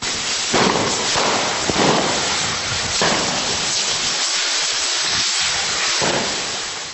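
Firecrackers crack and pop a few times over a dense, steady hissing roar that fills the whole scene, loud, with no clear voices, during the Enfarinats festival flour battle in a church square, where 4,800 firecrackers were thrown along with thousands of eggs and 3,000 kilos of flour.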